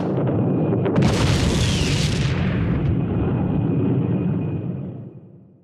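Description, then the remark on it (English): A firework rocket, labeled a super three-stage rocket but having only two stages, bursts with a loud boom and a bright crackling spray, followed by a long low rumble that slowly fades away. No one speaks. “Says super three-stage rocket in large letters on package, but actually only has two stages.”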